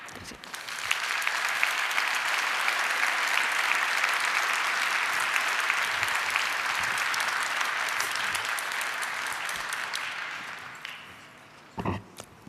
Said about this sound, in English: So thank you again. Give a big applause again.